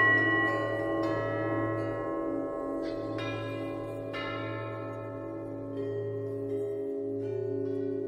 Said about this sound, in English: Here, as a gift from the cathedral, you can create your own peal of bells.